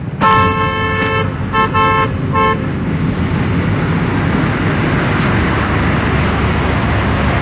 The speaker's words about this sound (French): Ah, c'est une petite ruelle avec un vieux camion tout défoncé, avec une famille qui est là devant sa maison en Iran.